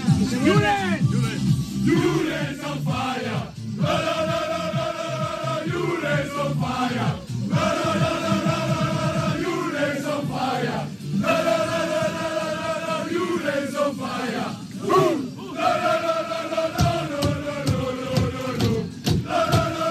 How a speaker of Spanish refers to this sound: y de hecho, de esta manera celebraron junto a él sus compañeros en el autobús, camino al avión que les traía de vuelta a Bilbao como campeones.